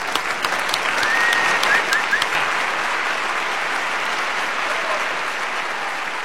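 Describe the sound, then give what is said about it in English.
A crowd claps steadily in a dense, sustained wash of applause, with a few whistles and whoops rising over it near the start before the clapping carries on evenly to the end. “Give it up, if you would,”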